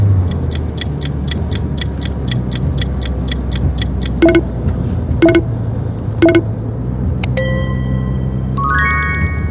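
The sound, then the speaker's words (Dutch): A bus engine rumbles steadily throughout, with quick regular ticking early on, then three short beeps and a run of bright electronic tones near the end. No one speaks. “is the bus.”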